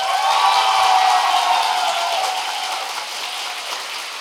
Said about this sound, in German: Also würde ich sagen, gebt uns einen kräftigen Applaus für ….